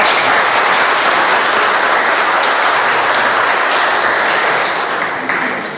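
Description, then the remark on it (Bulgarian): Sustained audience applause at a Bulgarian Medical Union event, for its honorary chairman, Dr. Dimitar Ignatov: a dense, steady wash of many hands clapping at full strength for nearly six seconds, easing off slightly at the end with no voices over it. “Моля за аплодисменти за един много важен гост, почетният председател на Българския лекарски съюз, доктор Димитър Игнатов.”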